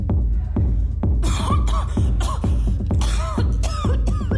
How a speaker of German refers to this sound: Ich täusche einen Hustenanfall vor und laufe aus dem Raum.